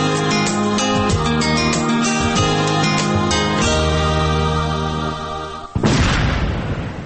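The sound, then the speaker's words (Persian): Sustained tonal music plays for several seconds, then cuts off as a single loud landmine explosion bursts out and rumbles away into a decaying roar. “صدای را که شنیدین صدای انفجار یک ماین بود، صدای دشمن ناشناس و همیشه در کمین که از سالها به این سو سبب کشته، زخمی و یا هم معیوب شدن هزارها تن شده.”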